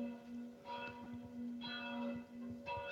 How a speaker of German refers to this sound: Bei dir klingeln die Glocken. Ja, ich weiß. 12 Uhr.